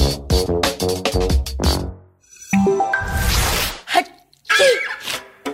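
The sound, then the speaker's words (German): A long, theatrical four-syllable sneeze split into several parts: a run of voiced, sing-song breaths building up, a loud hissing burst, then a short rising cry to finish. “Oh, Sie niesen viersilbig.”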